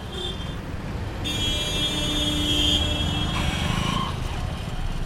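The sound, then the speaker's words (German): A taxi's car horn blares for a couple of seconds as it turns through chaotic traffic in a capital city, over the steady rumble of busy city traffic, followed by another shorter honk. “Sie hupt, wenn sie abbiegt, nützt jede kleine Lücke aus, um die Fahrspur zu wechseln und ignoriert Männerblicke.”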